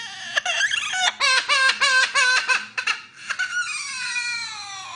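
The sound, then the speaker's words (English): A parrot mimics an infant's crying with a series of rapid, high-pitched sobbing wails, then a long, drawn-out falling cry, convincingly baby-like. No one speaks. “It sure sounds like a baby, but guess what it is? It's a parrot.”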